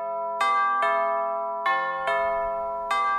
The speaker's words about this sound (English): Oh, when we sailed into Cork Harbour, what did we hear ringing out on the church bells? Oh, they went to so much trouble to do that for us. That made us feel so special.